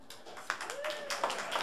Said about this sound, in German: Vielen Dank. Das mit dem Applaus, generöser könnte er sein.